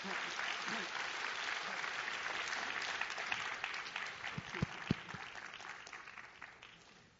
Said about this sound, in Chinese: 我们现在用最热烈的掌声来欢迎